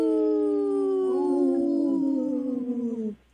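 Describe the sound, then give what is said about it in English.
Several voices howl together like a wolf pack: one long, steady, falling howl is joined by others, and the layered wavering tones slide downward for about three seconds before stopping abruptly. “That was a good one. That was one. A good pack, oh. Howl, you guys.”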